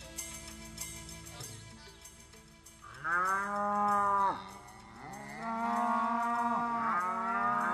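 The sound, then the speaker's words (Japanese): Many cattle, some 500 head brought by Yoshinaka's retainers, moo loudly, their long, drawn-out calls overlapping in two sustained bursts after a quieter opening with faint background noise. “義仲の家来たちが牛を連れてきました。 もうもうもう、 たくさんの牛です。”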